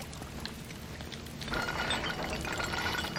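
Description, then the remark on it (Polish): Water rushes out steadily from an opened valve, growing noticeably louder and fuller about halfway through as the flow opens up, a continuous splashing hiss with no voices. “I co, będzie jakaś woda może poleci.”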